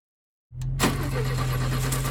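A car engine cranks and catches after a moment of silence, then settles into a steady, loud idle with a low rumbling hum.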